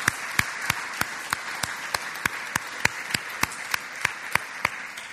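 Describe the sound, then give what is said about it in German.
A church audience applauds the worship team steadily, a dense wash of clapping with sharper claps popping out in a regular, almost rhythmic beat throughout. No one speaks over it. “Ich würde sagen, auch er und das Anbetungsteam hat auch einen Applaus verdient, oder?”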